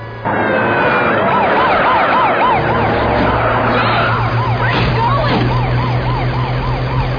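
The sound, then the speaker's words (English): A fire truck siren blares in a rapid rising-and-falling wail, loud and continuous over a low engine rumble. “To all units, intercept murder suspect in stolen fire truck.”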